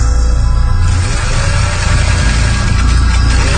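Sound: sewing machine running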